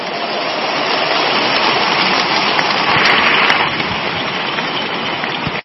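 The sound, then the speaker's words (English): An audience gives the Lord Jesus a clap offering during a morning session: a dense, steady wash of clapping that swells slightly midway, then cuts off abruptly after about five and a half seconds, with no voices heard over it. “One more time, give the Lord Jesus the biggest clap offering.”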